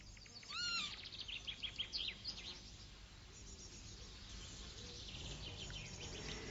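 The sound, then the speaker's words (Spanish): A Eurasian lapwing, a wader, gives a few sharp, slurred whistling calls near the start in a coastal meadow, followed by scattered fainter chirps, all over a steady breezy outdoor hiss with no talking. “El ave fría euroasiática, uno de sus primos más cercanos, está incluso más extendido.”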